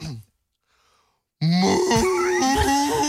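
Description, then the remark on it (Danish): A man imitates a cow's moo with one loud, low, drawn-out voiced groan that wavers in pitch for nearly two seconds, after a brief sound and a moment of silence. “Ja, det var dig, der det var, fordi jeg sagde et eller andet, vores producer sagde, det lyder fuldstændig som en ko.”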